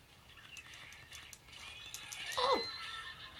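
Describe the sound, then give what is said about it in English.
A single horse, ridden by a monster, whinnies once, a brief descending cry rising out of a busy background of clattering and low noise, moderately loud near the end. “There's some monsters. And they're riding horses.”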